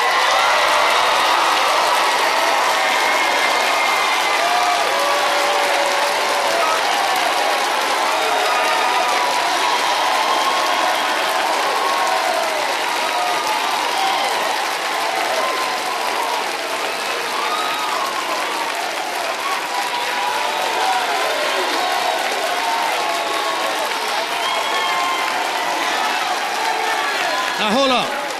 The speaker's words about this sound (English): Hold up. We'll clap one more time.